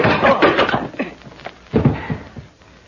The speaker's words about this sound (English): Don't bother to get up off the floor, pal. I can find the door as easily as my fist found your chin.